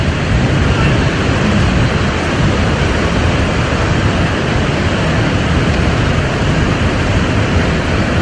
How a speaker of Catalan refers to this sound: Això és al sud del país, deu ser a prop de l'Ebre? Doncs sí, senyor. El vent que bufa barrejat amb el mar a la barra del Trabucador, el delta de l'Ebre.